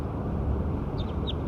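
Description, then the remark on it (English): Three or four brief, high-pitched bird chirps sound in quick succession toward the end, rising over a steady, loud rumbling background noise with no talking. “So recording bird 6 again.”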